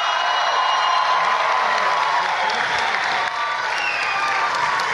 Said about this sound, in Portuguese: Saudar o nosso senador e pedir uma salva de palmas, Fabiano Contarato.